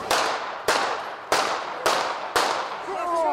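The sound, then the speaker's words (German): Five sharp, loud gunshots ring out in quick succession, roughly half a second apart, each leaving a brief echoing tail, fired as Slovakia's prime minister Robert Fico speaks with people at the roadside in Handlová, Slovakia; a faint voice cries out near the end. “Regierungschef Robert Fico will mit Menschen am Straßenrand sprechen, als plötzlich Schüsse fallen.”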